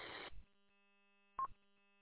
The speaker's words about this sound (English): It sounds like Quantar error tones. The double beep is usually an indicator that there's a power foldback issue.